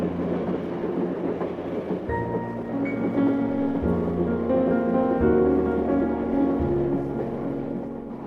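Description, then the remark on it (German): A diesel passenger train of two diesel locomotives, a baggage car, two compartment cars, a sleeping car, a dining car and a panorama car rumbles along on the rails, its engine drone stepping up in pitch every second or two over a steady, loud roar, with no voices. “Der Zug besteht aus zwei Dieselloks, einem Gepäckwagen, zwei Abteilen, einem Schlafwagen und einem Bordrestaurant, von dem aus eine schmale Treppe ein Stockwerk nach oben führt, in den sogenannten Panoramawagen.”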